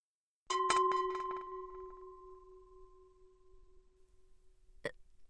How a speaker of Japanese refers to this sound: ねえ、おばさんのおならどうだった？え？臭いけど、なんか癖になる匂い？